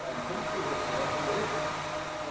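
A power drill runs continuously in a bright, dusty workshop hall of the Schlossbauhütte, a steady whirring motor drone with a thin tonal whine riding on broad hiss, holding an even loudness throughout without pauses or changes in speed.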